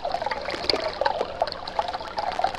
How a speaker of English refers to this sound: This is the brook from which the moonshiners get their branch water.